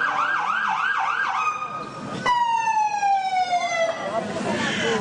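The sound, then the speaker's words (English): A loud ambulance siren, from an ambulance brought for an old man who slipped on the sidewalk, yelps in rapid warbling cycles, then shifts to a sustained, multi-toned wail that slowly drops in pitch, with busy street noise underneath. “They heard us talking about terrorism. They brought out the sirens.”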